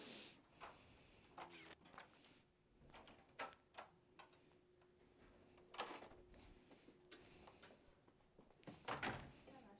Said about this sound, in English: I think there is a knock. Who is that? Someone is late for the party.